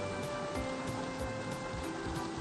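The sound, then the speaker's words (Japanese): A steady, dense hiss of heavy rain falling outside and growing stronger fills the background without pause, with faint drips and patters scattered through it and no voices present. “ちょっと雨が強くなってきたんでね、この先まだ雨の音が大きくなるかもしれませんね。”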